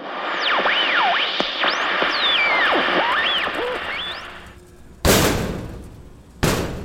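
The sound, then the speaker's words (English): Two loud, heavy bangs on a closet door, about a second apart, each booming and fading out, following several seconds of swooping, whistling tones with no one speaking. “stop banging on the closet door for a second.”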